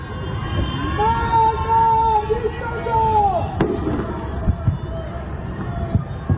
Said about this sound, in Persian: سه‌شنبه شب 21 بهمن 1404 جرقه های آتشبازی حکومت میخندند، اما از پنجره های تاریک خانه ها فریاد های ضد حکومتی در دل شب پراکنده میشوند.